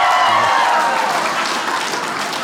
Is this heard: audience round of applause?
yes